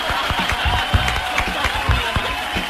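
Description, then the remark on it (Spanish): An audience applauds a performer being introduced on a show, a dense patter of many hands clapping steadily at moderate loudness, with faint cheering and murmuring voices mixed in. “¡Aplausos para el señor Lápiz!”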